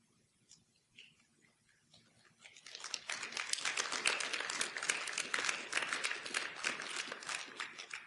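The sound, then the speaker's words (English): A church crowd breaks into applause for themselves, starting with a few scattered claps and swelling after a couple of seconds into dense, steady clapping that carries on to the end. “What's great is that you're actually clapping for yourselves.”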